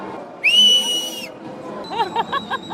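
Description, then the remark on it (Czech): A woman lets out one loud, piercing whistle held for nearly a second, its pitch rising slightly, at a celebration on Old Town Square in Prague, then a crowd's murmur and chatter take over. “A já umím pískat zase.”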